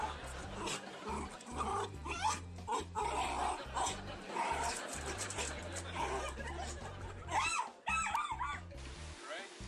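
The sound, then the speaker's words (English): A dog makes a run of excited noises, whining, yipping and snuffling in quick bursts, with a few higher whimpers near the end and a busy low background underneath. “Even pet dogs like pet rocks.”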